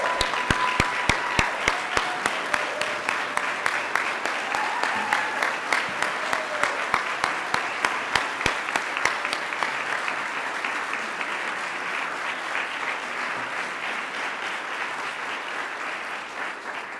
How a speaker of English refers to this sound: And I just wanted to thank everybody for coming here. Let's give one more round of applause for all of our applicants and recipients.